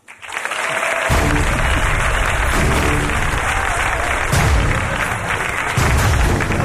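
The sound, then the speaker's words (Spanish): A large audience at the Museo Guggenheim in Bilbao applauds steadily, a dense wash of clapping that stays loud for several seconds, with a few dull thumps underneath and no one speaking. “Un aplauso para Gloria Serra.”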